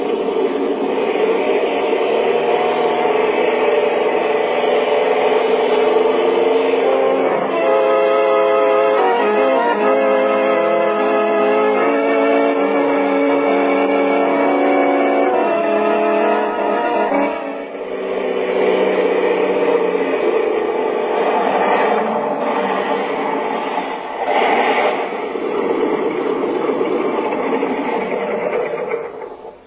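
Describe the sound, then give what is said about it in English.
A small plane with an automatic starter starts and runs up to takeoff, a loud, steady buzzing drone whose pitch climbs and wavers as it revs, with no voices over it. “Heaven, this plane's got an automatic starter.”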